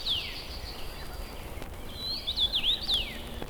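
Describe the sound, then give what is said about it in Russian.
A bright red common rosefinch sings from tall shrubs beside a sunlit road: one clear downslurred whistle, a pause, then a quick phrase of four or five bright, slurred whistled notes, over a soft, steady background rumble. “Чевичу видел, чевичу видел. Это высвистывает чечевица.”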